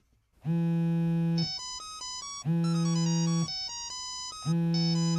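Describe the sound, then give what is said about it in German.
A telephone ringtone plays a loud, buzzy electronic melody: a sustained low tone followed by a quick run of higher notes, repeating about three times in steady two-second cycles with no voices. “Das nächste Telefongespräch wartet. Wer ruft hier wen an?”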